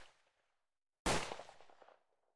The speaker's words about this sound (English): Oh, fuck. What was that? Were those gunshots? Wait, what is that, hunters?